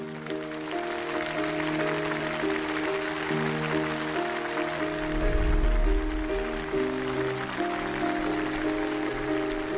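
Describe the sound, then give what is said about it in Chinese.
Steady crowd applause fills the whole stretch, a dense crackling wash of clapping over sustained, low-pitched music, with a deeper swell midway through. The audience welcomes the writer Yu Hua onto the show 朗读者 (The Reader). No one speaks. “接下来就让我们掌声欢迎朗读者著名作家余华。”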